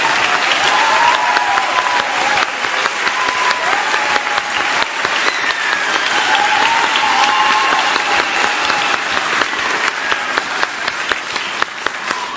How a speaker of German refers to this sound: Kriegt man schön warme Hände vom Klatschen.